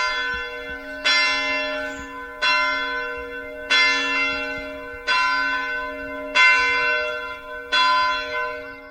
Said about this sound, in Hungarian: Hány harang szól a központi templom tornyában? Központi templom tornyában 3 harang van, Solyomkőn van egy haranglábunk, ott 2. Gyönyörű szépen szól a központi templom harangját, hallottam.